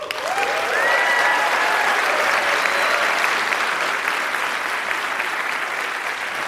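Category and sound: crowd, audience applause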